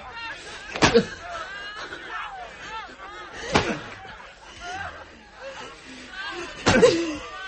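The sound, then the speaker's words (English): Three sharp whip lashes crack across a woman's back at an even, unhurried pace a few seconds apart, loud, with a low murmur of voices continuing underneath. “Each time you rake your whip across my back, you drag this universe a little further from its axis.”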